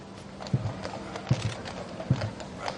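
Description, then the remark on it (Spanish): Horses' hooves clip-clop slowly in a funeral procession heading to St George's Chapel at Windsor Castle, with sharp, evenly spaced hoof strikes roughly every three-quarters of a second over a soft background murmur. “caballos también, por cierto, en la otra procesión”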